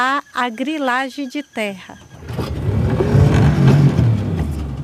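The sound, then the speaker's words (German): After a brief voice at the start, a motorboat engine starts up on the Rio Jaci Paraná and drones loudly and steadily, its low rumble mixed with rushing, hissing water noise. “Mit dem Motorboot geht es über den Rio Jaci Paraná.”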